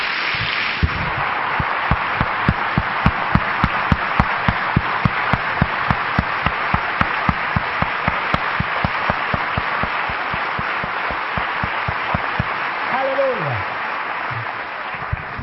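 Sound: audience applause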